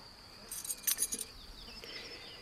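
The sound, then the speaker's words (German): An old key inherited from a father being handled, giving a brief cluster of light metallic jingles and clinks that fade into quiet, with a faint, steady insect-like whine in the background. “Dieser Schlüssel ist das, was ich von meinem Vater geerbt habe.”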